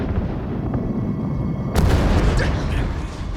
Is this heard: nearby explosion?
yes